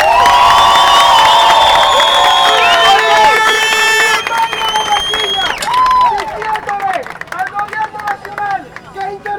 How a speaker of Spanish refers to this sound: El día de hoy nos merecemos un fuerte aplauso.